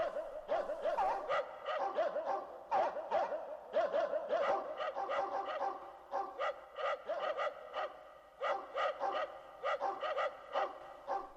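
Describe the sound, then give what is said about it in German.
Several dogs bark in a rapid, overlapping chorus as they come nearer, the sharp yaps and woofs continuing without pause for the whole stretch at a fairly steady, moderate loudness. “Der Fuchs sah die Hunde immer näher kommen.”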